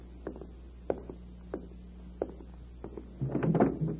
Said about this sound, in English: Let me answer it by opening the door.